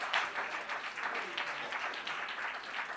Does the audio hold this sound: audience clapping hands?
yes